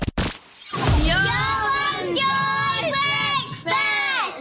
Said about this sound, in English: That always brings me joy. That's my nieces and nephews shouting out to us with their own little sting.